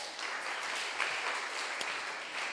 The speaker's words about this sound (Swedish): Här har ni den mäktige Hesekiel. En applåd.